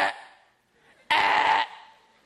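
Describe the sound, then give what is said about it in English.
A person vocally imitates the grinding of car gears when changing gears: a rasping, buzzy burst that fades, a brief lull, then a louder, harsher half-second grind with a rattling texture before it cuts off. “What is that noise? It's somebody grinding their gears.”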